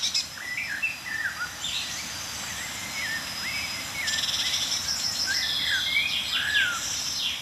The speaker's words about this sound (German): Und ja, Amsel, Buchfink, Meisenrufer.